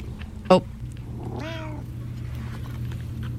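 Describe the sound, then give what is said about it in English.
Cats chirp: a quick sharp chirp, then a longer warbling trill a second later, over a steady low background hum with no talking. “Oh, they're chirping in the background to explain.”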